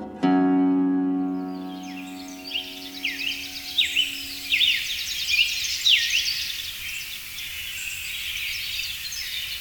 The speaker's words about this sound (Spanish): Tángara incinera, de nombre científico Piranga flava, pertenece al orden Passeriformes y a la familia Cardinalidae.